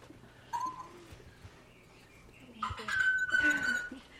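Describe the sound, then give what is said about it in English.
A parrot in a home makes sustained, ringing metallic tones, imitating a bell sound learned from hitting its beak against a metal water dish: a short one first and then a longer, louder steady ring with clattering bird noises around it, with no talking. “that sound is a bell sound, which she learned because one of the things she does for fun is to hit her beak against the metal water dish, and it makes a ringing sound.”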